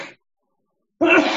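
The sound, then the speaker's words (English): A single loud sneeze bursts out suddenly after a moment of silence, with a brief breathy sound just before the pause. “Bless you.”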